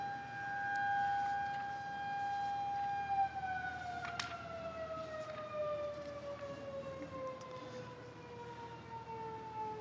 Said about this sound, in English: We'll let the siren end here.